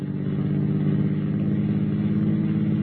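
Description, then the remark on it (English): A car engine drones at a steady, low pitch throughout, loud, with a continuous rumbling hum and no voices. “Yeah, I see him. That's the car, all right.”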